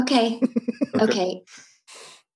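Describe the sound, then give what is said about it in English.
A voice clears its throat in a string of rough, voiced bursts, followed by two breathy exhales as it settles. No words are spoken. “Just had to clear my throat.”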